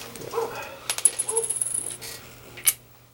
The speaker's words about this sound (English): Open up the door. Let the dog in. He's all fucking thrilled.